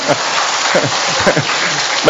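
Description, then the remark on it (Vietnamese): Dense, steady clapping from an audience, a loud wash of hand claps that never lets up, with faint voices mixed underneath. “Cho một tràng pháo tay đi thôi các bạn.”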